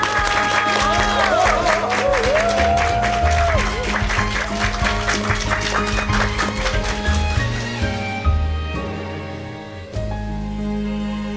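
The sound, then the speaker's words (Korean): The studio audience of the EBS FM radio program on reading the classics bursts into steady, dense applause welcoming a professor's lecture on the Analects, carrying on for about eight seconds, then thinning and fading, with some voice or tonal sound faintly mixed underneath. “박수로 청해 듣겠습니다.”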